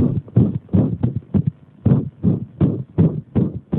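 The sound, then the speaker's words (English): A loud recording of erratic heartbeats, listened to at high volume on headphones, with thumping beats landing at uneven, irregular intervals, some doubled and some spaced apart, giving a jagged, erratic rhythm with no voices present. “Davis put on headphones and listened to erratic heartbeats at high volume until she felt the tension of jagged rhythms in her own body.”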